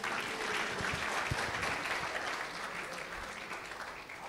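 An audience claps steadily for about four seconds, a dense, even patter of many hands at a fairly loud level that eases off only slightly toward the end.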